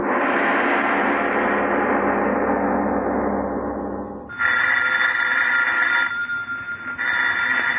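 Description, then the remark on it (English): A telephone rings in two bursts with a short gap between them, fairly loud, in a Lights Out radio story, right after a sustained swelling sound fades away. No one speaks. “Miss Goddard, answer the phone, please.”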